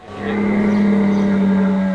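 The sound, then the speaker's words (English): A camel roars in one long, loud, low-pitched bellow, a steady droning growl with a rumbling, engine-like buzz that holds for about two seconds without a break. “But when a camel does roar, it goes something like this.”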